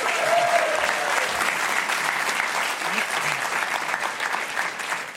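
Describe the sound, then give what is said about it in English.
A crowd claps loudly and steadily to welcome the guests of a second panel, a dense, sustained wash of applause that holds at an even level for several seconds, with a faint whoop or cheer poking through early on. “All right, please give a huge welcome. I already got you to cheer. I'll have to do it again now.”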